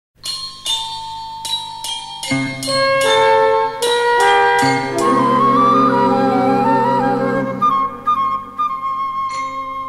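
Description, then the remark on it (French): An orchestral introduction to a song from Robert Plaquette's 1877 comic opera Les cloches de Corneville opens with bright chiming bell strokes, then swells into a full, sustained, loud melody, with no singing yet. “Et maintenant une chanson extraite de l'opéra comique de Robert Plaquette, de 1877, Les cloches de Corneville.”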